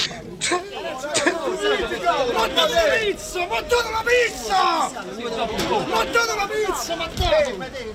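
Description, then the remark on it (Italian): A dense crowd of many voices shouts and yells at once at an anti-government protest at the Circo Massimo, organized by far-right groups joined by football supporters; a loud, continuous roar of overlapping cries with occasional sharp bursts rising above the din. “Scene dalla manifestazione contro il governo, organizzata al Circo Massimo da alcune galassie dell'estrema destra, per la prima volta unite a gruppi di tifosi.”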